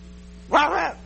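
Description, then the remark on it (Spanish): A single dog bark, fairly loud, with a slightly drawn-out, whiny tone. It rises sharply and fades after about half a second over a low steady background hum. “¿Qué hace un perro?”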